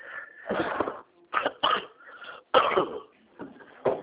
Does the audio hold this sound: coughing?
yes